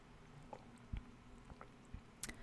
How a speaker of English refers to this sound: This tea, this hot cinnamon spice tea, it's so flavorful. I don't know that I've ever had a tea quite like this. Like it's almost, hold on, one more sip.